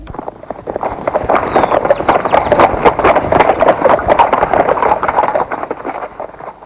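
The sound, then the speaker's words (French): Horse hooves clip-clop at a brisk, steady pace as a rider sets off on horseback, fairly loud, continuing without pause for several seconds with no one speaking. “Le lendemain, il est parti habillé de propre sur le cheval du roi.”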